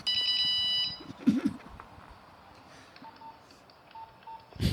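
A bright, electronic polyphonic mobile phone ringtone plays loudly for about a second in layered synthetic tones, then cuts off, leaving quiet background noise with a few faint beeps.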